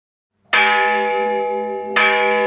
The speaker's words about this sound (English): He remembers the bells.